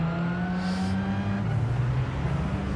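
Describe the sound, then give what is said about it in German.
A racing video game car engine, the blue car driving behind the player's car, drones steadily, its pitch dipping slightly midway with a faint high whine above, loud and continuous throughout with no talking. “Oh nein, das böse blaue Auto ist hinter mir.”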